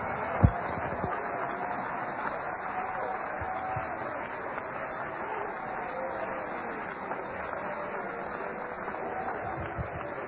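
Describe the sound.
A large audience claps steadily for about ten seconds to give God praise during a sermon on baptism, a dense, continuous wash of hand claps, with murmuring voices mixed faintly underneath.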